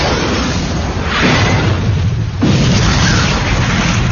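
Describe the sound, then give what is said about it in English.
A loud, thunderous explosion engulfing the front of a store, with a deep rumbling roar, swelling once and then slamming in again with a second sharp blast after a brief dip, the heavy rumble sustained throughout. “A thunderous explosion engulfed the front of the store, shards of glass flying everywhere.”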